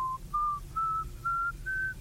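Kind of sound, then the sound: human body sound, person whistling a tune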